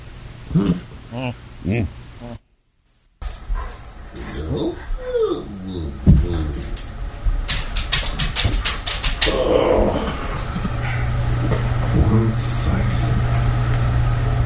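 A man makes drowsy morning waking-up noises, long yawning groans and whiny moans, mixed with what sound like a dog's whimpers, over a steady low hum.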